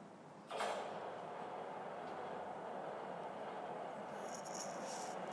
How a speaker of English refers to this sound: Right. There's a train coming. I have no idea where it's going.